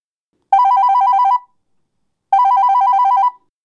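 A telephone rings twice, each ring a warbling electronic trill lasting close to a second, separated by a short pause. Loud and clear with no talking.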